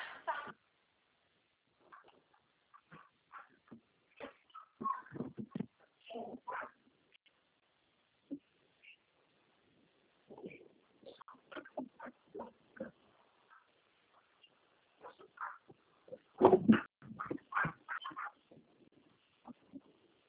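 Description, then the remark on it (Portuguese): A dog makes irregular, excited yelps and whines in short bursts, some loud, with quiet gaps between, heard through a muffled, phone-like recording during a phone call. “Nossa, meu cachorro aqui, calma aí.”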